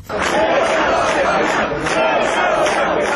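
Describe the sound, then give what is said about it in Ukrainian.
A large crowd gathered outside a court building in central Chișinău, as the court rules on extending the arrest of former prime minister Vlad Filat, roars and shouts together, a dense wall of many voices that swells in rough rhythmic surges, loud and continuous throughout. “Натовп людей зібрався біля приміщення суду в центрі Кишинєва, який ухвалював рішення щодо продовження на місяць арешту екс-прем'єра Влада Філата.”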